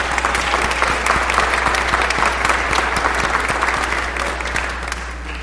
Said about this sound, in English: who always jumps in when she's needed, and she also needs a round of applause.